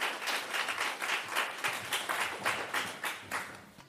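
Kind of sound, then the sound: crowd, warm applause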